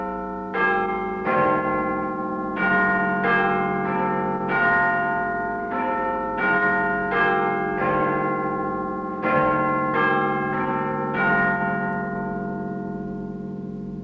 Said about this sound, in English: Now, in just a few seconds, the chimes of Big Ben and the 10 o'clock news.